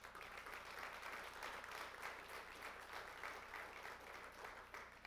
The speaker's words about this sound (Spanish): Si estás agradecido, levanten un fuerte aplauso.